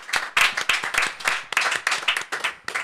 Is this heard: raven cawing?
no